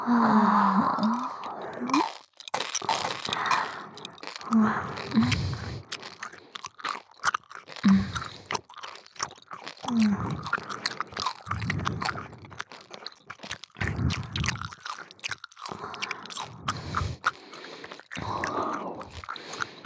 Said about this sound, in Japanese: 左右の耳元でいっぱいくちゃくちゃ咀嚼するからね。